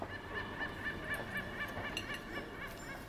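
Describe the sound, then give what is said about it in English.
Seagulls in Brighton call out in a rapid, steady series of short, harsh cries, about eight in three seconds, heard over a constant background hiss with no one speaking. “People walking past, chatting, birds, seagulls, because I live in Brighton.”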